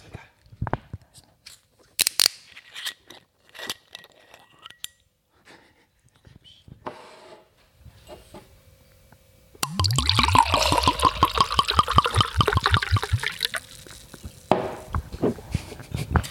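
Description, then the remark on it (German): Clicks and a scrape as a non-sparkling wine bottle is opened, then a few quiet seconds before a loud, steady glugging pour into a glass for about five seconds. “Also ich mache jetzt mal den Wein auf.”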